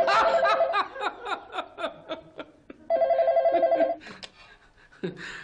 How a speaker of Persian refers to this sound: بابا تلفن.